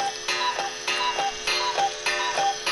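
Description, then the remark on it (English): A cuckoo clock ticks in a steady, even rhythm, each tick a bright click with a faint metallic ring, repeating about every half second with no voices. “this fucking cuckoo. I mean, we're having a serious conversation. And he's doing his best to lighten the mood, sweetheart.”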